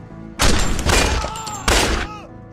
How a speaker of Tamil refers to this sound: கப்பல் படை கொடுத்த துப்பாக்கி 3 தடவை வெடிச்சது.